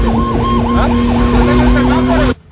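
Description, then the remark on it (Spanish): An ambulance siren wails in rapid, repeating sweeps, loud over heavy road rumble, then cuts off abruptly near the end. “¿A las ambulancias le dieron potestad de autoridad o qué?”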